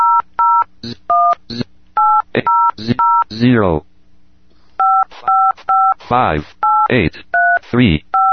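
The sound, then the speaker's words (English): Smartphone keypad dialing tones beep one after another as a phone number is dialed, each short dual-tone press followed by a quick synthetic voice from the Smart Hal software announcing the digit, in a steady alternating rhythm, clear. “As I'm dialing the number, Smart Hal is reporting the digits, and that should be a fairly familiar number, although we will get a slightly unfamiliar message before it connects.”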